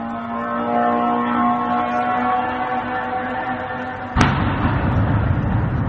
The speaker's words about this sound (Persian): با صدای زوزه‌موتور و انفجار دست کم 6 پهپاد انتحاری ساخت ایران، اهالی شهر بیلوتسرک و در 100 کیلومتری جنوب کیف شب پر استرابی سپری کردند.